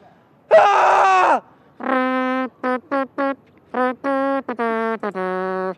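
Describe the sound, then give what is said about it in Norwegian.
A person lets out a loud, strained scream, then follows with a string of shorter voiced wails and cries in uneven bursts, with no talking. “Ja, men det er, okay, det er litt kjipt å skrike her.”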